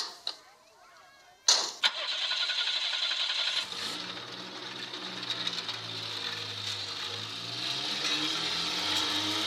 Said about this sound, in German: Ein Auto mit kaputten Auspuff. Davon fahren nicht viele durch die Gegend.